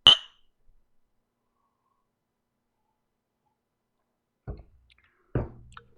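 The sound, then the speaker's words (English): A single bright clink of whiskey glasses in a toast rings out briefly at the start, followed by near silence and then two soft knocks, like glasses being set down. No pouring can be heard, and nobody speaks. “We're going to pour this up. And cheers to the first whiskey of the week.”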